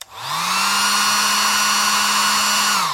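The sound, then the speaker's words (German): A loud hair dryer whirs up quickly and runs steadily with a strong airy roar and a high motor whine, then begins to wind down at the end. “Zum Vergleich jetzt der laute.”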